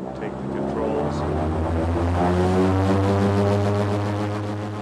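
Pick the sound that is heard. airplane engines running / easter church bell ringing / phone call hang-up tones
airplane engines running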